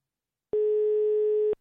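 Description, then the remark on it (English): A single steady telephone ringing tone of a call to a non-UK number, not a UK ringtone, a flat mid-pitched beep lasting about a second that starts and stops abruptly, heard alone with no voices. “Well, it's not a UK ringtone.”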